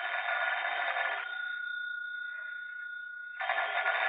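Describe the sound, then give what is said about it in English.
Blake's telephone rings loudly late in the afternoon: a long buzzing ring, a pause of about two seconds, then a second ring begins. No one speaks. “It was late in the afternoon when Blake's phone rang.”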